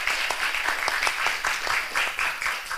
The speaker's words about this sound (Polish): Wielkie brawa.